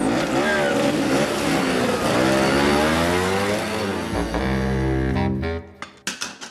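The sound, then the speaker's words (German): A moped engine revs loudly, its buzzing pitch sweeping up and down several times, then cuts away abruptly, leaving a few faint knocks and clicks at the end. “sondern steigst auf den Moped, bevor wir noch erwischt werden.”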